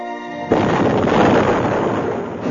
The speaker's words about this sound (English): An explosion rocked them from the starboard side, but most of the Kessel fighters concentrated their firepower on the much larger threat of Dala's Imperial fleet.